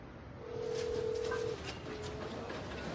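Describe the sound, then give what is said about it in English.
A phone call to the caller's father rings out with a steady, single-pitched ringback tone lasting about a second, then a fainter tone begins as the line keeps ringing over low background hiss, with no one talking. “It's ringing.”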